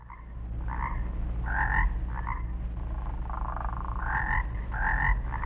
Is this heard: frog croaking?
yes